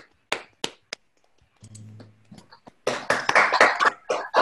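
A few scattered, sharp claps, a brief low hum, then a burst of dense audience applause, many hands clapping together loudly for the last couple of seconds.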